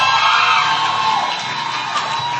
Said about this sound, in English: Those who are shouting have been in Night of Wonders before.